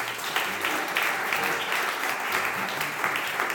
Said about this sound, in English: So Todd Powell is on the keyboard. Let's give Todd a big round of applause.